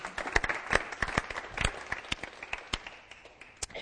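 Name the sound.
audience clapping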